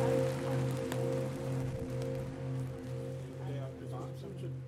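Steady, dense rain hisses outdoors without a break, fairly loud, with a constant low droning hum running underneath the whole time.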